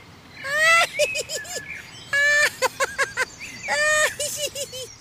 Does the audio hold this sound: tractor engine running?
no